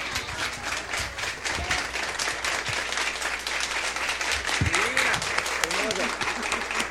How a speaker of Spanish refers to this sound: ¿Se pueden parar, por favor, y darle un aplauso a esta señora?